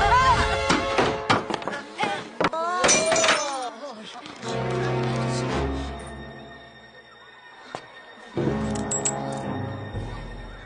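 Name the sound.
glass breaking and shattering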